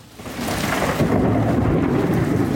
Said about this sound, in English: I'm … in New York, where thunderstorms are soaking the city.